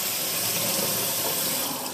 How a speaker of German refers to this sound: Ich lasse mal Wasser laufen, um mal zu hören, wie das funktioniert. Ich muss die Paprika noch waschen.